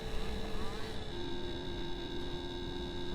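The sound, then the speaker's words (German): A small moped-engined microcar drones steadily through a curve, its buzzy, whining engine tone holding at a constant pitch for a few seconds. “Das Moped-Auto in der Kurve.”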